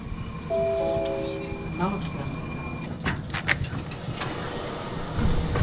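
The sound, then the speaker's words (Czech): Busy main railway station ambience as someone walks out of the station: a steady rumble with brief tonal chimes, clattering knocks and a door-like swish, and indistinct crowd voices murmuring in the background. “Vycházím z hlavního nádraží a moje cesta teď bude pokračovat tramvajem, metrem a autobusem na Strahov.”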